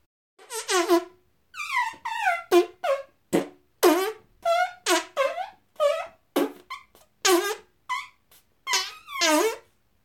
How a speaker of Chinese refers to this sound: 特意加重了浓度的麻醉臭屁，从银狐的菊穴里慢慢喷洒出来。